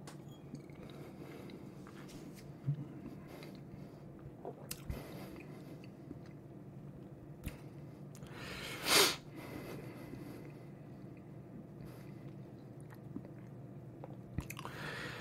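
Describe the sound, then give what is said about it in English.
One short slurping sip of whiskey from a glass, the third sip, taken unaltered, stands out midway, surrounded by quiet, wet mouth noises and faint swallowing sounds, with no talking. “So we'll go with sip number three, unaltered.”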